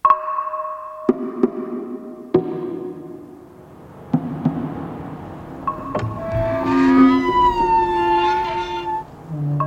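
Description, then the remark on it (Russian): A rusty metal gate grinds open with a few sharp clanks, then breaks into a loud, drawn-out, wavering metallic screech. No one speaks. “Раздался жуткий скрежет. Вероятно, открылась ржавая решетка.”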